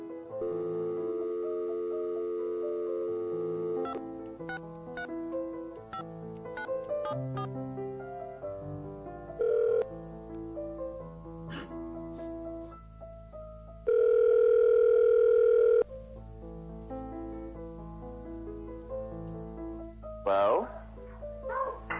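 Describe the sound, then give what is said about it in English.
A telephone placing a long-distance call: a steady dial tone hums at the start, followed by short tonal beeps and a loud, sustained phone tone midway, with faint voice-like sounds running underneath. “I got to find my long distance phone call. So we're going to call Jack and Alexander.”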